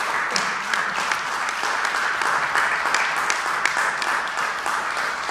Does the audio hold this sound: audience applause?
yes